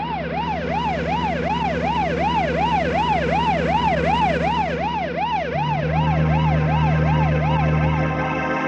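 A police siren wails loudly, its pitch sweeping up and down in quick, steady cycles without pause, over a low engine rumble.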